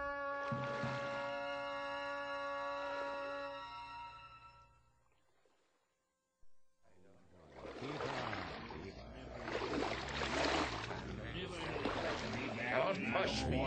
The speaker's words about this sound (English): The white oars dipped and splashed, and off they went north up the lake on the last stage of their long journey.